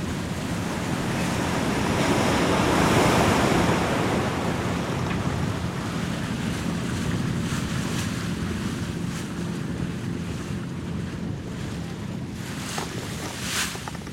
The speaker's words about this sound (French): Et puis le bateau, il est soumis au mouvement de la houle, des vagues.